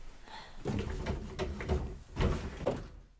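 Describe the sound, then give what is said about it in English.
A door that is locked from the inside is rattled and yanked repeatedly in a series of clattering jolts that keep failing to open it, with a brief quiet gap before another burst of shaking. “The door's stuck.”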